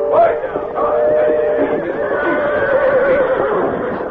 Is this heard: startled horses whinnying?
yes